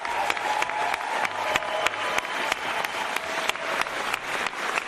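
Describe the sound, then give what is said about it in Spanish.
Sustained applause from Angela Merkel's colleagues at her farewell, a dense steady patter of many hands clapping at a strong even level, with a few sharper individual claps standing out throughout. “Así la aplaudían sus compañeros.”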